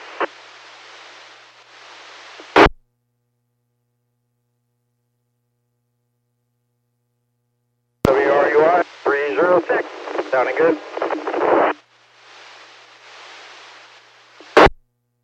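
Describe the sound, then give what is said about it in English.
A two-way radio check transmission: a hiss of static broken by sharp squelch clicks, then a brief burst of talk over the channel, with faint white noise lingering beneath. “Loud with a little white noise in the background.”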